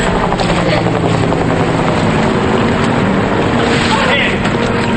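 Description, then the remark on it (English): A helicopter with its lights on hovers over water, its rotor blades thumping in a rapid, steady chop beneath a loud, constant roar of engine noise and wind rush. “The scene is lit up by the chopper's headlights.”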